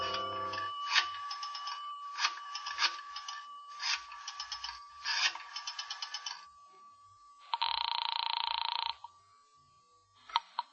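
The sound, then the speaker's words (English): A telephone rings through the line in four steady bursts against a faint continuous tone, followed by a short, harsh rasping noise and a click. The call is placed from one of a row of phone booths at the rear of a lobby. No one speaks. “I decided I'd try calling her again. Walked past the cigar stand in the lobby to a row of phone booths at the rear.”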